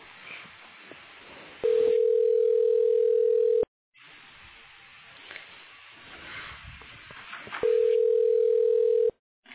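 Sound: telephone ringing tone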